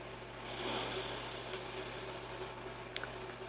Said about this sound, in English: Being still means just sitting for a moment. Deep breathing. Breathe in.